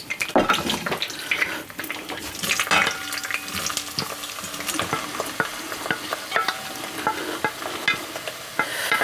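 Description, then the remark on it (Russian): Onions added to heated, boiling oil sizzle and crackle steadily as they are lightly fried, a dense hissing texture broken by frequent sharp pops and clicks, with occasional stirring scrapes; no one speaks. “Добавляем лук в кипящее масло.”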